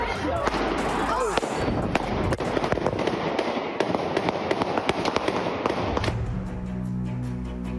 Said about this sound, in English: Another mass shooting in America. Hundreds flee for their lives on the streets of Philadelphia as gunshots stemming from a street fight leave three dead and a dozen injured.